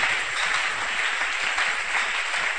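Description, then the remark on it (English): An audience claps together in a steady, dense burst of applause that holds an even, fairly loud level throughout, with no voices standing out above it. “Oh, you can clap those hands.”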